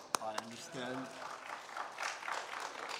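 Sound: audience applause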